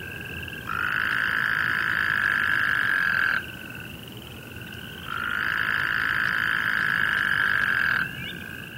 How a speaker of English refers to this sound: We've had tadpoles in here before, and toads calling during the breeding season. And that season is when the toads are at their noisiest, like in this clip